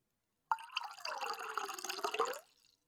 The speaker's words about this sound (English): You look at this empty glass, and it fills up with water. A glass of water.